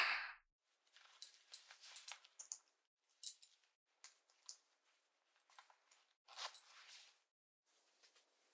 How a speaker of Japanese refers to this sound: チャックを開けるね。